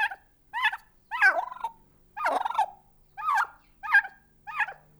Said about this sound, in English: This is Robin, a beautiful, boisterous turkey, graced with a wattle that looks very much like a string of pink, bubbling jewels. Robin is one of the many residents living and thriving at the Loving Arms Animal Sanctuary located in Erie, Colorado.